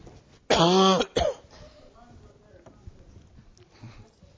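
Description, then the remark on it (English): A loud, rasping cough, or a harsh clearing of the throat, bursts out from a speaker who has had a cough for the last 40 minutes, and is followed by a short second catch. After that it goes quiet apart from faint murmuring. “I've gotten a cough over the last 40 minutes.”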